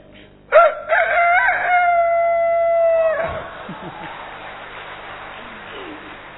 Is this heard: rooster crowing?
yes